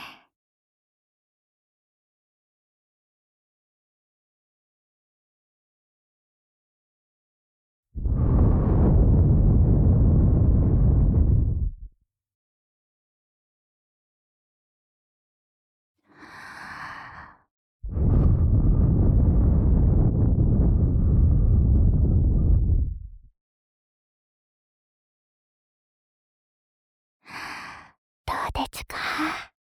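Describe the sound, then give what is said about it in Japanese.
Two long breaths blown into the ear, each a soft rushing whoosh lasting several seconds, separated by quiet, with brief faint rustling between and at the end. “お耳がすっきりして、ママの吐息がよく通るようになりましたか。”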